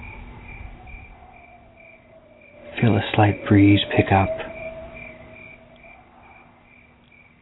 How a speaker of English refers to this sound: As the sun sets and you absorb this information, feel the temperature slowly drop. Hear the night insects begin to chirp.